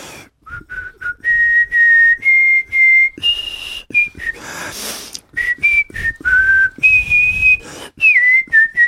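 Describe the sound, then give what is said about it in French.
A person whistles the French national anthem, La Marseillaise, a clear melody of sustained notes with short breaths between phrases and a brief breathy noise partway through, no talking. “Et voilà, je viens de siffler la Marseillaise et je tombe sous le coup de l'article 433-5-1, je sais plus comment on dit dans le jargon judiciaire.”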